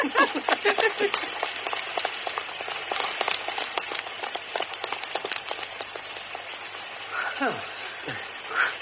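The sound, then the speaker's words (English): Heavy rain pours down steadily while quick, splashing running footsteps pound in a stage door alley in a rapid, uneven rhythm, with a couple of brief breathy vocal sounds near the end. “Someone else is running in the rain.”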